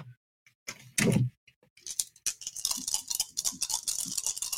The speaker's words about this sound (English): Okay, so I'm going to roll my hollow dice of divine retribution from easy roller dice, and then I'm going to roll some other dice from the other dice store.